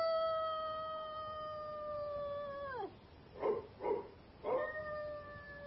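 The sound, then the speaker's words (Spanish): A dog, old Towser, howls in a long, drawn-out note that slides downward, then lets out three quick barks before starting another howl, all sounding faint and far away, raising a night alarm that reaches a distant farm. “Sus ladridos llegan a una lejana granja.”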